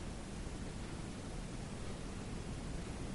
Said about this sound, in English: And then begin to notice the sound of a babbling brook. And listen to the sound as it makes its way over the stones.